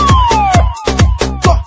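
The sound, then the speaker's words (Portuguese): A loud siren sound effect with gliding, falling tones wails over a fast, punchy electronic beat, the heavy thumps repeating steadily under it. “Toca a sirene.”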